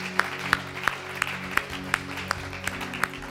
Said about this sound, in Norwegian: Kan vi ge Jesus en god applaus? Halleluja.